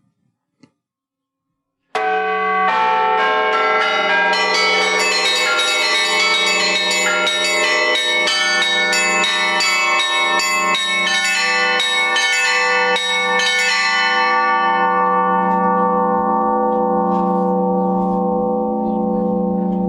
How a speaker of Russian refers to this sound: А вот как звонит Владимир Марьянович Петровский, предлагаю сейчас послушать. К сожалению, мы не можем весь 40-минутный его звон и весь его концерт поставить. Послушаем небольшой отрывочек, самый такой техничный, наверное.